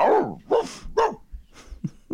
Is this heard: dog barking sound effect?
yes